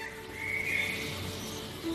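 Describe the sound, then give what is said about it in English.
A faint bird gives a thin, drawn-out whistled call against a quiet, hushed background as birds slowly wake at dawn, heard outside a tent in pitch-black, cold conditions; no one speaks. “Oh, you can hear the birds waking up slowly.”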